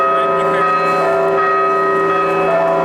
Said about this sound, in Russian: Колокольный звон разносится по Пензе. У Спасского кафедрального собора сотни прихожан ожидают прибытия раки с мощами святителя Иннокентия.